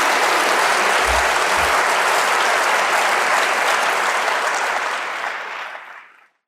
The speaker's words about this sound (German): Nochmal einen großen Applaus und vielen Dank.